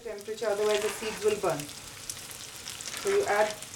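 Chopped yellow onion, added after cumin, sizzles steadily in hot oil as it fries until soft, a continuous crackling hiss, with a muffled voice briefly speaking over it at the start and again near the end.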